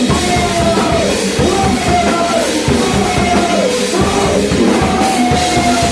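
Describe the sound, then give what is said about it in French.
A musician yells into a saxophone, producing loud, raspy, vocal-like wails that slide up and down in pitch, sustained for several seconds over a dense, pulsing musical backing. “Mais dans nos répètes hebdomadaires, j'ai remarqué que je pouvais effectivement crier dans mon saxophone et obtenir des sons vocaux et pas directement les saxophones.”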